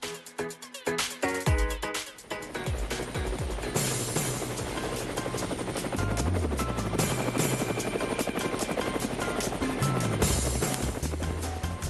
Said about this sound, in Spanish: Bueno, el helicóptero lo dice todo.